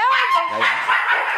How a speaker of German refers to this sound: Wie ihr hört, sind meine Hunde auch im Museum mit dabei. Kampfhunde! Hey, Schluss! Ja. Die müssen immer das Revier verteidigen hier.